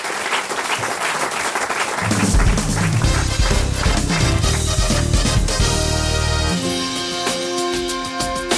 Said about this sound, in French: Mais non, on applaudit encore Christine.